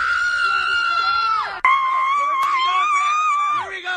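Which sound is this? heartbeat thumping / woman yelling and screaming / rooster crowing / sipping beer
woman yelling and screaming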